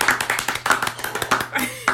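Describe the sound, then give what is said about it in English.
Hands clapping in a quick, steady rhythm, roughly ten sharp claps in two seconds, each a crisp, moderately loud smack with a slight ragged overlap as the applause continues. “Okay, I'm clapping.”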